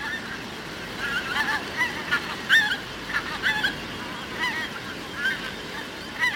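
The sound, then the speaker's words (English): A skein of pink-footed geese flying over in autumn: many high, yelping calls overlapping in a steady, chattering stream against a soft background hiss, with no talking. “For me, the point in autumn when you hear the first skein flying over, I get a little wee chill up my back every time that happens.”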